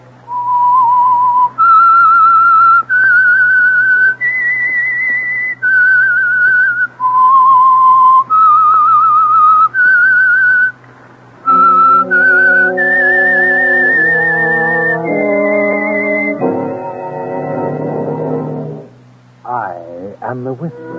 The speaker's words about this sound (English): That whistle is your invitation to listen to the Household Finance Corporation program, The Whistler.